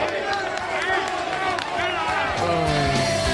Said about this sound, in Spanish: La tropa aplaudiendo, es maravilloso.